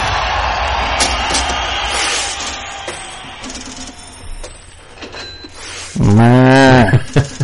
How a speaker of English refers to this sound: The old polka dot cow is out of the pasture. And in Coleman County.